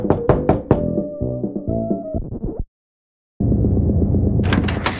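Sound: knocking on a door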